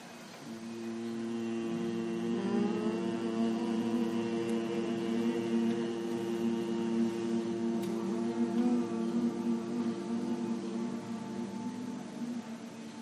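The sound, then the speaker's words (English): A long, steady bee-like hum from a human voice, Brahmari breath, holding one low pitch with rich buzzing overtones and sustained unbroken for over ten seconds after a brief quiet start. “We'll do three rounds of the Brahmari, sound of the humming bee.”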